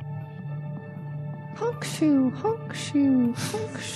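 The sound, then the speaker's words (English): A voice imitates snoring in a British manner with a few rhythmic bursts, each a breathy rasp followed by a short, falling tone, repeated over a steady low hum. “Suki is a weird snorer. Me, snoring in British.”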